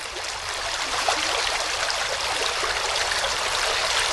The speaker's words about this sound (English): The absence of new chemicals is not only good for the land, it also benefits a high-quality water body that flows through Rainbow Springs, the Mequonago River.